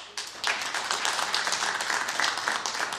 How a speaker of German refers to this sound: Dann machen wir mal. Einmal per Applaus, wer gegen ein Social Media Verbot für unter 16-Jährige ist.